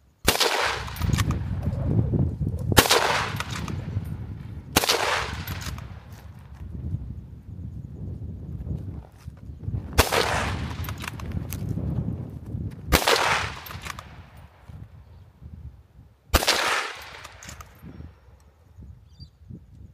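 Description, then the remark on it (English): Six loud rifle shots from a tripod-mounted rifle ring out while hunting pigs, at irregular intervals, each a sharp crack followed by a long rumbling decay, with quiet pauses between them and no voices. “Got the rifle on the tripod for stability, and while I was shooting I was losing a front leg.”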